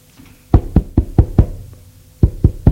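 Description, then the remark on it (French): Someone knocks on a door: a quick run of five sharp raps, a short pause, then three more. The knocks are loud and crisp with no voices. “On a frappé à la porte.”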